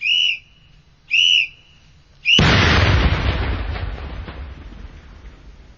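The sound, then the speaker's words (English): Three sharp warning whistle blasts sound in steady succession, then a loud controlled detonation destroying three Russian-made PMD-6 wooden landmines erupts with a deep, roaring boom that rumbles and slowly fades over several seconds. “Now, that's the explosion, and that is three mines that have just been destroyed there, three PMD-6 mines.”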